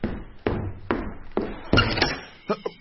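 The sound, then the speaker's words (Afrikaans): Someone knocks firmly on a door late in the evening, several loud thuds spaced out unevenly, then a short pause and two lighter knocks at the end. “ek is regtig jammer ek klop so laat aan, maar ek het dringende nuus.”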